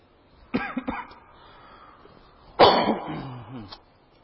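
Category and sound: human body sound, nervous cough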